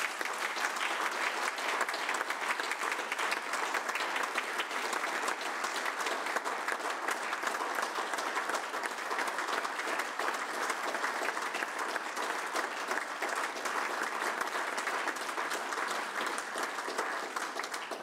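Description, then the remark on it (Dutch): Sustained applause at a municipal council meeting for the council's civil service staff, a dense steady patter of many hands clapping at an even level for about eighteen seconds, with no voices standing out. “Ik wil eigenlijk, voor ik één verder woord zeg, namens ons allen, onderscheidend wat de heer Westerneng net zei, een enorm applaus voor onze ambtelijke organisatie.”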